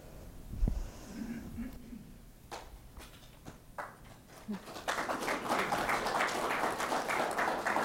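An audience at a talk bursts into applause partway through as one speaker finishes and the next comes up, a dense crowd of clapping hands that stays loud and steady to the end, following a few scattered bumps and shuffling sounds.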